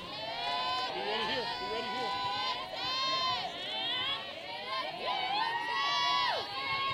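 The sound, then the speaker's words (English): Players chirping from the Trojans dugout during a game: several high-pitched voices yell and chant in overlapping, sing-song calls, a steady and fairly loud stream of chatter that rises and falls without pause. “You can hear the chirping from the Trojans dugout.”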